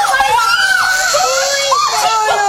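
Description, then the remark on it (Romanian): A baby cries loudly after being dropped and rolling to the hearth, a continuous wavering wail that rises and falls in pitch across the whole stretch with no pauses. “Uite, l-a scăpat pe copil.”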